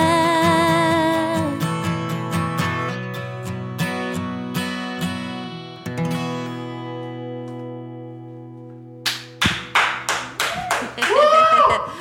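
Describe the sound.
A heartbreak song's last sung notes ring out and fade, then a short burst of audience clapping and cheering breaks in over the final couple of seconds, mixed with a voice.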